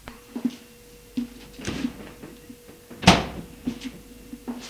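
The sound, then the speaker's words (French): A car door is opened with a soft clunk as a man gets out of his car parked in front of a house, followed a moment later by a single loud, solid slam as it shuts, with a few faint clicks and rattles around it. “Il sort de voiture.”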